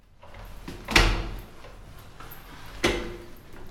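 A front door opening: a sharp latch clunk, then a second, softer knock about two seconds later, over a quiet, steady background with no talking.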